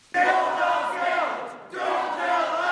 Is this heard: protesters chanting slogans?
yes